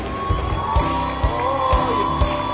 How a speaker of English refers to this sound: Keep clapping for them. As you are clapping, we are also welcoming our pastor to close the service.